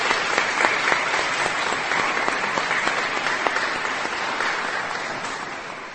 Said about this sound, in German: Ja, vielen Dank euch dreien. Wir finden, das ist ein Applaus wert, oder? Das war doch schon ein kleines Vorbild.